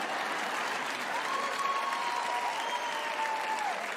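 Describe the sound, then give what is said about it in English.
A steady wash of audience applause, many hands clapping together in a dense, continuous patter that holds at an even level throughout, with a faint thin whistle-like tone drifting underneath. “I'm not getting too many hand claps on that one.”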